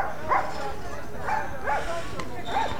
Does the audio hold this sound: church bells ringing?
no